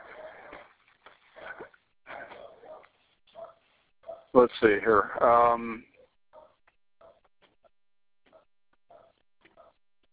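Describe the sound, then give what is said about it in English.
A dog barks and whines in a short loud burst in the background partway through, while a person talks quietly before and after over a phone line. “The dog is coming in on us, just a second.”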